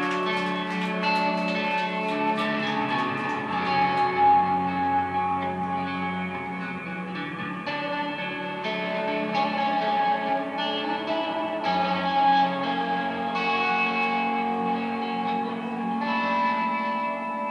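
An electric guitar plays sustained, shimmering chords drenched in reverb and echo, the notes blooming and overlapping in a dreamy wash at a steady, fairly loud level with no voices.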